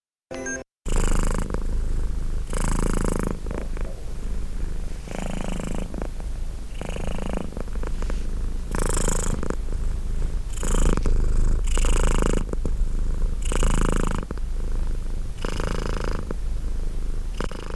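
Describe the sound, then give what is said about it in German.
A cat purrs steadily, a continuous low rumble with rhythmic swells as it breathes in and out, no voices present. “Wie war das mit dem Schnurren?”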